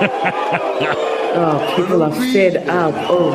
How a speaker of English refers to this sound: Oh, people are fed up. Oh, my word. And so, these are ANC supporters. These are, like, these they are, weren't the ANC yeah, the, regalia, yeah, right? But know, they're still booing.